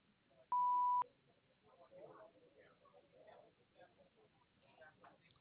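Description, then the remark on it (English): A single steady electronic answering machine beep, about half a second long and clear, sounds at the start, followed by a voice talking continuously over a faint phone line. “Please leave your name and phone number after the beep.”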